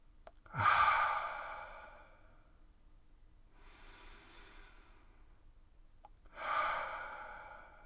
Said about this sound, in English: Breathe into any discomfort. Breathe in deeply through your nose, allowing your breath to soften any tension. And then exhale fully through your mouth and have the intention of releasing the fears.